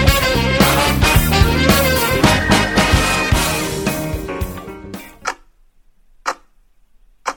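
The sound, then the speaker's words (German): Loud, busy music cuts off, then a bomb's time fuse ticks alone: three sharp, evenly spaced ticks about a second apart, clear against silence. “Vergeht das 3-Sekunden-Ticken des Zeitzünders rasend schnell.”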